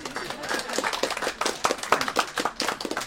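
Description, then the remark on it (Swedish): A crowd applauds at an inauguration, many hands clapping in a dense, uneven patter that stays steady and moderately loud for a few seconds. “I mitt manus står att nu ska det vara applåder.”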